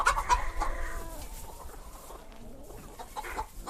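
Hens cluck busily in a farmyard while a rooster crows near the start, the calls overlapping in a continuous, lively chorus with no talking.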